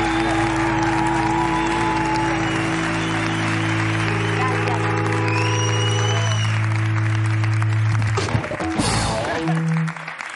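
An audience on the show La Resistencia applauds steadily and loudly for about eight seconds over a sustained musical backdrop, congratulating guests on a music video, then the clapping thins out and fades near the end.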